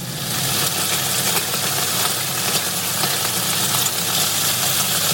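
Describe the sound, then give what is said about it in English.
Chicken frying in oil: a steady, dense sizzle of countless tiny crackles, fairly loud and unbroken for about five seconds, with a hissing, rain-like texture and no voices. “Now, when they say, this is frying chicken, I go, oh, yes,”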